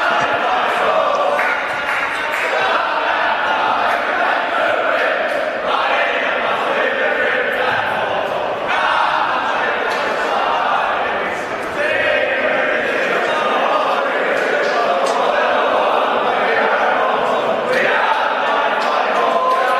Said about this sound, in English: and then it's a bit like the rugby league boys do. They do the foot stomping and the clapping rather than the actual huddle, which we know. Here's the Hawks.